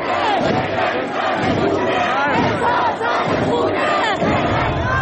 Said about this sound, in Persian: در نوار دیگر زنی در داخل مترو نمایان می شود که حجابش را آتش زده، ازدحام بزرگ شعار اعتراض‌های اخیر را تکرار می نماید.